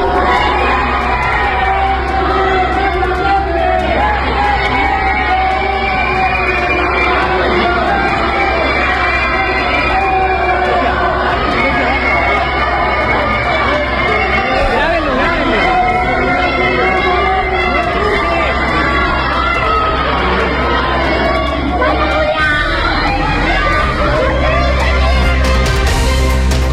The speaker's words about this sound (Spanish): Escuchar son gritos, distintas consignas en contra de la diputada. Nosotros nos encontrábamos en el exterior de la Facultad de Derecho, en donde escuchamos por bastantes minutos los gritos de los asistentes y de los mismos estudiantes